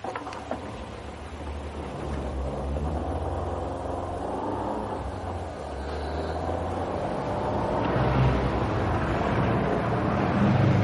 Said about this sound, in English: Pretty awful, isn't it? What? The traffic. Oh, Friday night. Weekend travellers.